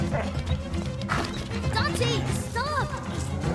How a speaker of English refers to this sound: Stop it! Leave me alone! You're not a spirit guide, you're just a dumb dog! Now get out of here!